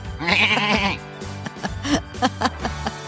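A goat lets out a loud, quavering bleat, followed by a run of shorter, choppy bleats and grunting calls. No talking.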